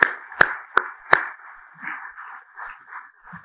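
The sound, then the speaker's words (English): Four sharp, loud claps ring out in quick succession, followed by a softer, continuous wash of scattered clapping from an audience of about 300 people at an event in East Central Indiana, holding at a steady moderate level without any talking. “For the last few years, we've taken them around the state, and we should give ourselves a round of applause because 300 people today for our first time event in East Central Indiana is fantastic.”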